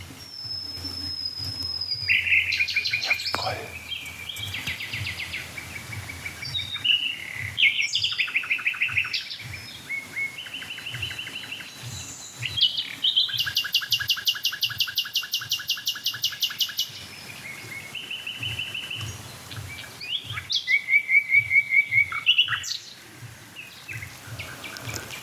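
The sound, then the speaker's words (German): Five nightingales sing at once in a dense, overlapping chorus of rapid trills, whistles and repeated chattering phrases, loud, with no talking. “Das ist die Hausnachtigall. Jetzt haben wir quasi alle fünf zusammen.”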